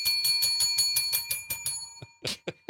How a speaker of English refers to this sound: I'm just trying to make her feel like there's a lot of bells around.